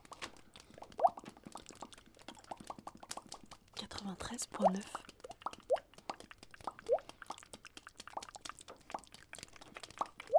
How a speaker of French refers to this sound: C'est la pluie.